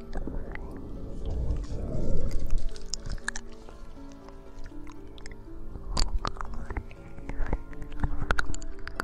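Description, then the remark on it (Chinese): Wet mouth and tongue sounds in the ear, with soft smacks, slurps and sticky clicks in an irregular, unhurried rhythm over a low, breathy hum, as a tongue circles the ear from outside to inside and moves deeper into the ear canal, trailing strands of saliva. “由外到内，由浅到深，一圈一圈，口水拉着细丝逐渐深入你更加敏感的耳道中。”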